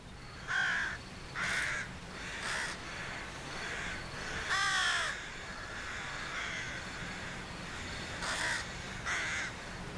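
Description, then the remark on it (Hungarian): Crows caw repeatedly at a nesting colony guarded by parent crows and sentinels, harsh calls coming in scattered bursts from several birds, some loud, others fainter, over a steady outdoor hiss. “A varjúszülők a fészkelő telepet egy pillanatra sem hagyják őrizetlenül.”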